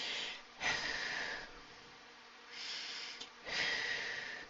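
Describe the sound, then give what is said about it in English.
Slow, deep breaths drawn in and pushed out during a breathing exercise, emptying the lungs as slowly as possible; airy, with two fuller exhales standing out between quieter intakes of air; no talking. “So you're going to take 10 slow breaths, deep breaths, focus on breathing as slowly as possible until the lungs are completely empty.”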